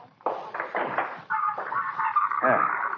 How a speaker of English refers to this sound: Now, hang on. Got to open this door.